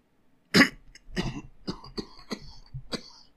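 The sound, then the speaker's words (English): A sharp, loud cough bursts out, followed by a string of rough, phlegmy throat-clearing rasps and smaller hacks in an uneven rhythm, with no talking. “Oh, between this cough and what's causing it, I end up with an awful lot of phlegm in the throat.”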